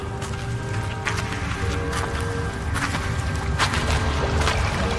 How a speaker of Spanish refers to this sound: Mira, un manantial. Aquí, junto a esa roca.